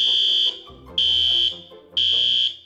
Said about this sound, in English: Someone triggered the alarm. There must be an intruder or...